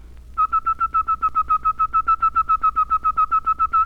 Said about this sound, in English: Here is the letter T. Notice that T, T. Say T and then whistle it. Put the whistle where the voice was. T. T. Now then, try it a little bit faster.